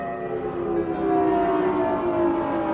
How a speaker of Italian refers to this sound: E ancora il suono delle sirene. E ancora una sensazione di paura. Penso che i miei nonni hanno vissuto anni interi con il suono delle sirene che avvisavano dei bombardamenti imminenti.